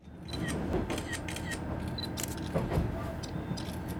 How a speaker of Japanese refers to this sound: この音、何の音かわかりますか？わかりますよね。そう、カメラのシャッター音。ではここで問題。こんなに写真を撮る音が響いているのは一体どこだと思いますか？ 只見行き3番カーです。 なんと電車の中。